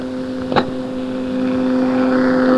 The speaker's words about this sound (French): C'est toujours le moteur qui tourne.